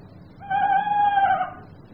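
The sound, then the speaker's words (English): An owl hoot recorded on a Walkman and played back: one sustained, mid-pitched call lasting about a second, fairly steady with a slight waver, rising out of a quiet low hum and fading away. “But I thought it'd give the game away having no owl in a forest, so I recorded some owl noises on my Walkman and stuck it underneath.”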